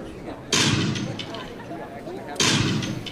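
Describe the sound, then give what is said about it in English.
Two sharp, booming blasts of gunfire and explosions, about two seconds apart, each with a rumbling reverberant tail, heard from across a large, noisy convention floor. “Okay, we heard some firing, some explosions across the convention floor.”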